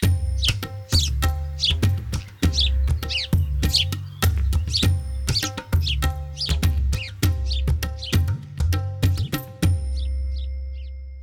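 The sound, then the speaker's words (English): A house sparrow (Passer domesticus, family Passeridae) chirps in a rapid, busy stream of short, sharp notes over a steady low hum, then the chatter stops and a few faint chirps trail off at the end. “The house sparrow belongs to the avian family Passeridae.”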